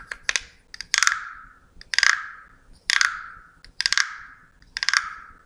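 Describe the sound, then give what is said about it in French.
A wooden frog guiro being rubbed in a steady rhythm, six raspy ratcheting strokes, each a quick burst of clicks that rings out briefly before the next. No voices. “Ce son ressemble à notre guirot en forme de grenouille que l'on frotte.”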